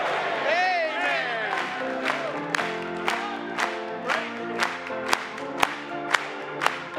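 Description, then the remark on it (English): An audience claps in steady unison in praise of the Lord, sharp beats about twice a second, while many voices shout and cheer over the rhythm, loud. “Clap it one more time to him.”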